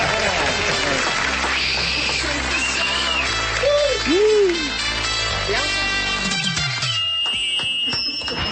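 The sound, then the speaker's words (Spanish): A crowd applauds and cheers loudly for several seconds as a host introduces Nicolás Maduro as a comedian, with shrill whistles, swooping hoots and a horn-like tone rising above the steady roar of clapping. “Viene desde Venezuela, así que recibamos con un fuerte aplauso al señor Nicolás Maduro.”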